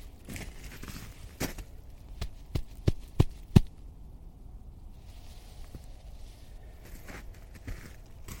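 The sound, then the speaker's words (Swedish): A hand pats a mossy rock slab: about half a dozen dull, soft thumps in an uneven rhythm, the last few strongest, followed by quiet outdoor background with no talking. “Jag ska klappa lite på den för att höra hur det låter.”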